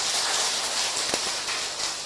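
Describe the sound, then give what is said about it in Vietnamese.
Steady, dense applause from a crowd, a continuous crackling patter of many hands clapping at an even loudness for about two seconds, with no voices over it. “Rồi cho một tràng pháo tay không minh lòng.”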